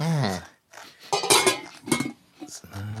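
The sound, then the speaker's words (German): Dinner dishes and cutlery clatter and clink as they're cleared from the table, with several bright knocks in quick, uneven succession after a brief voice-like sound at the start. “Das Geschirr vom Abendbrot steht noch auf dem Tisch. Ich räume das mal weg”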